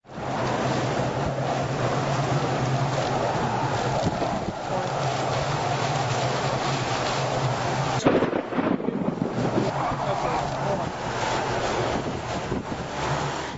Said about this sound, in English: I think even a child who has never heard this sound would get prickly hairs on the back of a neck as the storm chaser recording of a howl in Joplin, Missouri, just as the twister that killed hundreds came to town.